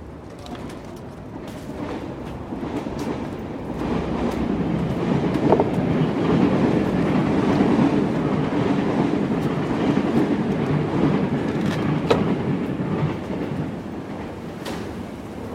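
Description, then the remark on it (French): An RER commuter train rolls along the rails with a steady, broad rumble and occasional metallic clicks and squeals, heard from on board; faint bird calls appear in the background. “Aujourd'hui, quatrième épisode, on commence par prendre un RER.”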